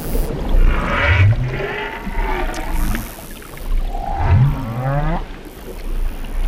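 Two low, rising closed-mouth calls from a right whale mother calling her calf, soft tonal moans that sweep upward, each about a second, recorded underwater at 2 metres depth beside an inflatable Zodiac boat, over a steady hiss of background noise.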